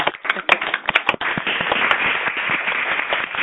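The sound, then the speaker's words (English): Scattered hand claps break into dense, continuous applause from participants on an Institute for Literacy and Learning conference call after their phones are unmuted, thin and band-limited like sound passed through a phone line, with a few sharp individual claps standing out early on. “And I am going to unmute everyone's phones, and when I do so, could you all please join me in giving Dr. Motes a round of applause?”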